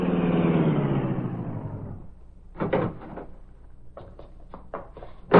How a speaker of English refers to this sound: Driving his powerful car through deserted side streets under cover of night, Britt Reed arrived at a dark alley near the garage.